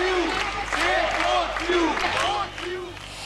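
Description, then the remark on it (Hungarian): A large crowd claps steadily for the water polo players, with cheering voices rising and falling over the dense applause. The noise fills the scene and eases slightly near the end. “Legnagyobb tapsot mégis a pólósok kapták.”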